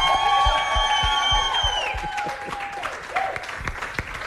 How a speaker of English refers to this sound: Guys, we have Fortune Frenzy, or Lotto Stars Fortune Frenzy millionaire. He is standing with us right now. Give this man a round of applause.